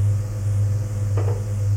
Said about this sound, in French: Il va à la cuisine. Ouvre le tiroir du buffet.